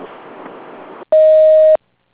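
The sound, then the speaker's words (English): A single steady electronic beep, loud, holding one pitch for about two-thirds of a second after a brief stretch of low hiss, then cutting off into silence, like a voicemail prompt tone. “Yes, please leave a message after the beep.”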